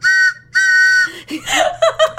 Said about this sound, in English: So if you get the answer correct, you'll hear the train sound.